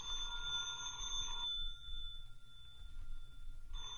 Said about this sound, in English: That's your phone, Mr. Austin. Yeah, my phone.